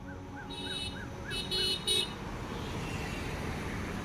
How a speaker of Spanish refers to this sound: Los vehículos pasan a alta velocidad. Carros, camiones y motocicletas que sortean su agilidad y, muchas veces, su imprudencia. Se acerca una motocicleta.